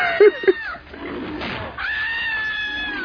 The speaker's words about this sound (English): Although her scream is that woman has got a weird scream.